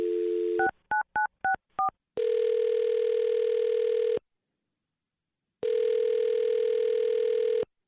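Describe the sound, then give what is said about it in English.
A telephone dial tone, then a quick string of five touch-tone beeps as a woman's phone number is dialed, followed by two long, steady ringback tones with a pause between them. Clear, with no voices. “All right, I'm going to dial her phone number right now.”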